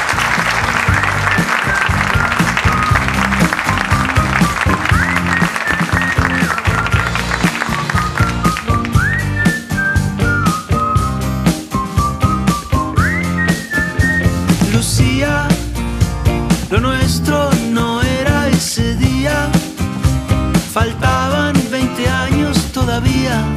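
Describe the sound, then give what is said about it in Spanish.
A crowd applauds steadily for over twenty seconds for two guests who have just been thanked, a dense, loud wash of clapping, while sharp, high whistles pierce through it at intervals, rising and falling in pitch. “Un aplauso gracias para ellos.”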